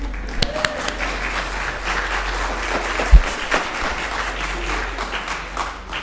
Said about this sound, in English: Free to applaud today.